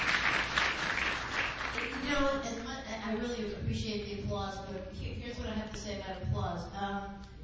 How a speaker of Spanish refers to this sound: Yo les agradezco mucho los aplausos, pero esto es lo que les quiero decir sobre los aplausos. Estamos corriendo un sketch muy corto, o sea que yo les voy a decir cuándo pueden aplaudir. Por ahorita no aplaudan.